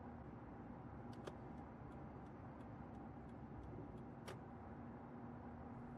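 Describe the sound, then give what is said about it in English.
Steady engine and road rumble inside a moving car, with a turn signal clicking in an even, quick rhythm as the vehicle turns left. No one speaks. “Okay, you can just park the car here.”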